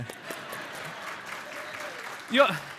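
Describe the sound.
An audience applauds steadily for the speaker's wife and her chili, a dense, even patter of many hands clapping, with a short voice or cheer rising over it near the end.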